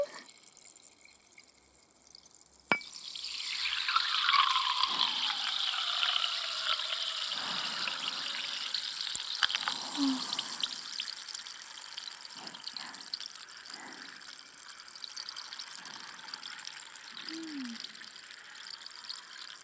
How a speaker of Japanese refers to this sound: 炭酸の細かい泡が頭の中で弾けるみたいで、ゾクゾクしちゃうよな。